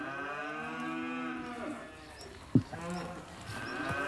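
Several cows moo in long, overlapping calls that fill the whole stretch, steady, with a brief sharp knock partway through and no voices.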